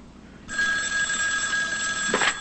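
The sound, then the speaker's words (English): A telephone at home rings with a steady, bright electronic trill that starts abruptly and holds at a fairly loud level while a woman takes a drink and ignores it; no one speaks. “takes a drink and ignores the phone.”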